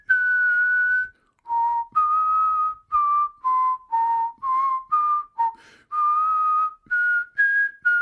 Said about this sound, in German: Das ist die Melodie vom Klüngelkerl. Okay. Klüngelkerl. Der Klüngelkerl. Oder halt Schrottsammler.